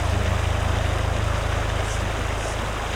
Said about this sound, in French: Il y a un petit avion qui passe au loin.